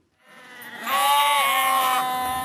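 A single loud sheep bleat from a flock of 2,000 sheep on a farm in Western Australia's Great Southern region, a wavering nasal cry that swells and holds for about two seconds, with no other voices.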